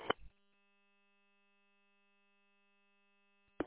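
A steady, faint electrical hum from an air conditioner running hard in a trailer on a warm day drones on unchanged in the background, with short bursts of noise at the very start and end.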